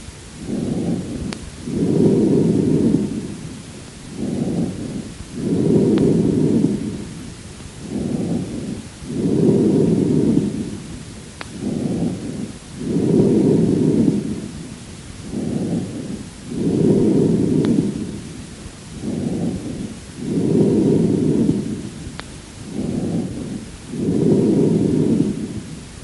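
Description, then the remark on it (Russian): Loud, hollow, resonant breath sounds heard through a stethoscope as amphoric breathing, recorded from a patient with a large abscess of the left lung, with about six steady cycles, each a short inhale followed by a longer exhale, and no talking. “Прослушайте амфорическое дыхание, записанное у больного с крупным абсцессом левого легкого.”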